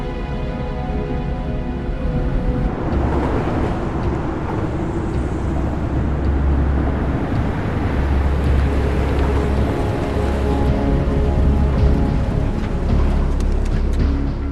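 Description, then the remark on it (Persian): A car engine with a fault, recently repaired, runs loud, a steady low drone with rough, uneven bursts like a faulty motor sputtering, continuing the whole time with no voices. “موتور این یه ایرادی داره.”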